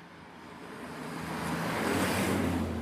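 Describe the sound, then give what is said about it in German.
A car approaches, its broad rushing road noise swelling steadily over a few seconds until it is loud, with no voices. “Und da kommt ein Auto, jetzt müssen wir kurz auf Seite”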